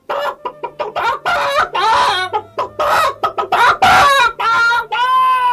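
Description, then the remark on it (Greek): A hen clucks loudly in a rapid, choppy series of short squawking bursts for several seconds, with a faint low steady tone running underneath. “Και η κότα κακαρίζει.”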